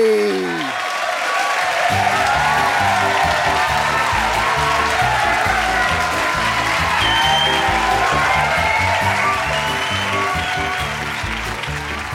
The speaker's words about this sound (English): All the aeroplanes and visitors cheered excitedly as Gigi proudly led the procession down the runway, into the air, and off on another adventure.